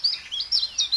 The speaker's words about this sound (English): This is the call of the chiff-chaff.